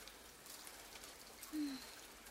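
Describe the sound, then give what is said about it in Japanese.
Rain falls steadily in a soft, even hiss, fairly faint, with a brief low cooing tone rising out of it around the middle. No one speaks. “こんな雨の日にも鍛錬ですか？”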